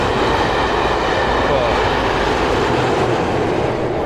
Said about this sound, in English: What is that train?